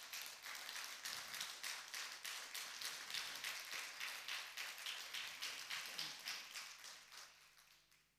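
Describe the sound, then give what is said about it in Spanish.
An audience applauds steadily for about eight seconds, a dense, bright wash of many hands clapping in a quick pulsing rhythm that tapers off at the end. “¿Cuántos me dicen amén y le dan un aplauso al Señor, por favor?”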